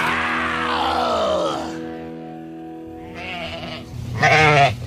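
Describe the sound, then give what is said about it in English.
Sheep bleat loudly: one long, wavering bleat followed after a brief pause by two shorter, quavering calls in quick succession, with no talking. “Quiet, girls. I think the shepherd's coming.”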